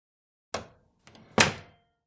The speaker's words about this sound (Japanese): おもむろに片倉はストラップ付きの名札ケースを取り出して、扉の前にあるリーダーにかざした。鍵が解錠されるのを確認して、片倉は部屋の扉を開き、中に入った。